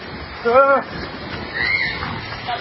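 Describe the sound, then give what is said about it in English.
A short, high-pitched scream rises out of a noisy outdoor background as about 4 inches of water creep up a street in California, followed by fainter shrieks and a steady crowd-like murmur, somewhat muffled. “The screaming in the background.”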